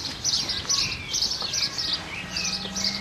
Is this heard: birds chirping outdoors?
yes